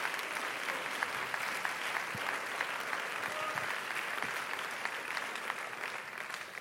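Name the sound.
audience clapping hands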